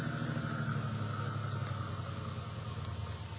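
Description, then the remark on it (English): A stopped car's engine idles steadily on a curving road beside a cliff before being cut, a continuous low, throbbing rumble with an even tone that holds at the same level throughout, with no voices. “I cut your engine.”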